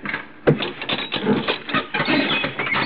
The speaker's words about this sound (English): He opened the door up there. Yeah, must go out the roof.